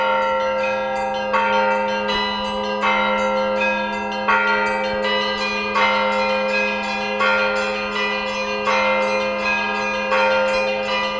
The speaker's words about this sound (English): There was a time when all of Moscow came here to listen to the bells, due to the beauty of the bell voices and the legendary bell ringer, Konstantin Saradzhev.